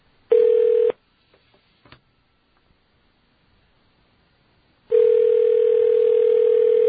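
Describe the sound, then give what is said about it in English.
A telephone dial tone hums briefly, cuts off for a few faint clicks as a phone number in Boca Raton, Florida is dialed, then a steady dial tone returns and holds. No voices are heard. “All right, now we're going to dial a phone number in a as yet undisclosed part of the country. And hopefully we'll hear a ring.”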